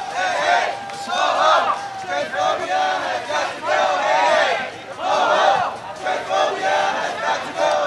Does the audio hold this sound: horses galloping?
no